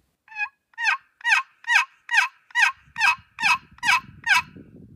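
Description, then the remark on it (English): A box call used for turkey hunting rasps out a rhythmic series of about ten loud, evenly spaced yelps mimicking an old hen turkey's yelp, with faint low rumbling creeping in toward the end. “That's just an old hen's yelp.”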